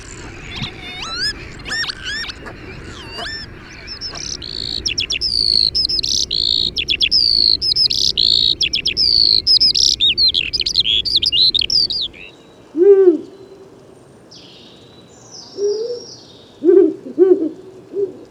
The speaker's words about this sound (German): Und natürlich gab es ganz viele Aufnahmen von Vögeln, die wir gemacht haben, die wunderschön waren.